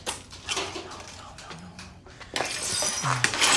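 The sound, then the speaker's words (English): Glass from a light bulb shatters under a stick's blow, a bright crash followed by scattered tinkling shards, fairly loud, with faint voices in the background. “He smashes a light with the stick.”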